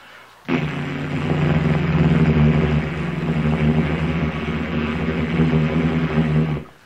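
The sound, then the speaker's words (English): A loud, steady engine drone of a plane flying along after takeoff kicks in abruptly and holds for several seconds, a dense low rumble with a rough, throbbing texture, like propeller aircraft engines in flight. “Beautiful sound of the engines.”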